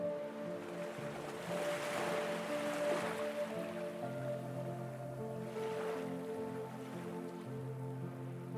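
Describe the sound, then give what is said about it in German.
Soft ocean waves roll in and wash up onto the shore in slow swells, peaking twice, blended with a steady, calm ambient drone underneath. “Beobachte nun mit deinem lieblichen Schmunzeln, wie die Meereswellen die Buchstaben deines Themas sanft und liebevoll wegspülen.”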